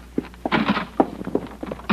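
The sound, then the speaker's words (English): Quick, heavy footsteps thump up a flight of stairs from a house's garage at a hurried pace, ending in a solid thunk at the inside door. No voices. “You get out and race up the stairs to the inside door.”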